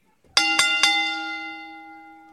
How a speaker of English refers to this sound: So now I got to ring the bell again.